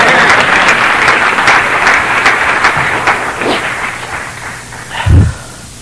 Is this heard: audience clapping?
yes